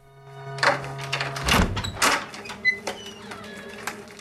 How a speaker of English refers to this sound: She opens the door and makes her way out onto the landing.